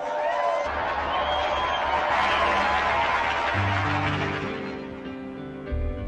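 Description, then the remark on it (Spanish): A crowd applauds steadily for about six seconds in tribute to Saint Simón Pan Dac Hoa and the Virgin of Guadalupe, a dense, even wash of clapping that fades slightly toward the end while low sustained tones hum underneath. “Ofrezcamos nuestro sincero aplauso a San Simón Pan Dac Hoa y a la Virgen de Guadalupe.”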